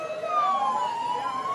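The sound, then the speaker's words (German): Sirens of real ambulances and fire engines pulling up for a rescue exercise wail steadily, their high tones slowly gliding and overlapping, with a low rumble of traffic underneath and no voices. “Dafür sind echte Kranken- und Feuerwehrwagen vorgefahren.”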